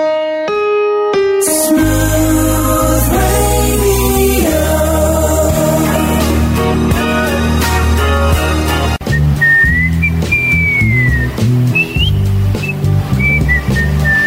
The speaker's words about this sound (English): I think I may have caught you doing that whole whistle while you work thing. Good work, by the way. Nice. You're right in tune.